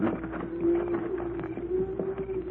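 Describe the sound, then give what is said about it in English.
A long, steady lowing drones on as cattle move along, with scattered hoof clatter and shuffling underneath, continuous with no voices. “Cattle are coming this way.”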